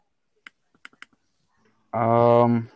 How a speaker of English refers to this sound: I hear keyboards clicking. I hear a keyboard clicking. Yeah, I'm working.